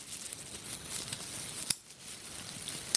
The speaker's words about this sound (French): je t'invite à faire claquer ce stylo 4 couleurs en même temps, parce qu'il y a toujours des petits morceaux de charbon qui craquent.